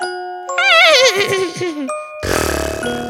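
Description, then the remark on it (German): A 7-year-old child's voice imitates a horse's neigh: a high, quavering whinny that wobbles and slides downward for over a second, then a short breathy, raspy burst. “Meine Lieblingstiere sind Pferde und die machen so.”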